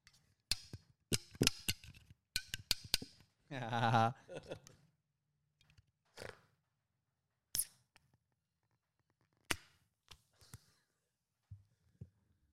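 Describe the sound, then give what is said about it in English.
A beer can is cracked open slowly: a few sharp metallic clicks, then a short, loud gush of fizzing hiss as the beer squirts out, followed by scattered faint clicks and taps. “I tried to do a slow crack.”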